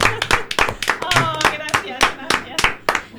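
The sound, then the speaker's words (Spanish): Sharp hand claps ring out roughly ten times in an uneven rhythm, fairly loud, while a voice talks underneath them. “Vas a salir al balcón a aplaudirte.”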